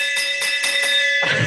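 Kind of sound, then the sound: signal or alarm, victory bell ringing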